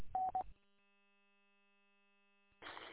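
A radio repeater's courtesy beep: two quick mid-pitched beeps sound through a hissy radio channel, signalling the talker to let off before speaking again, then a faint steady hum lingers for a couple of seconds before a sudden burst of static.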